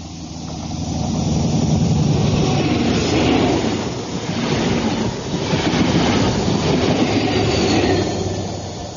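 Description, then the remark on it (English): A 400-ton electric high-speed train roars past at 125 miles an hour in a loud, sustained rush of rumbling and hissing, swelling and easing twice as the carriages stream by, with a faint rhythmic clatter of wheels underneath. “400 tons of gleaming high technology, all electronics, flashing steel, power pounding past at 125 miles an hour.”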